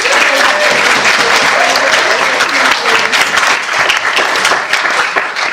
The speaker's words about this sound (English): And indeed all speakers for today's debate, can I please ask you for a final round of applause?